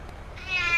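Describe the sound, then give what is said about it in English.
A single drawn-out meow from Caroline the cat rises and swells over the second half of the moment, clear, with no voices around it. “Caroline the cat!”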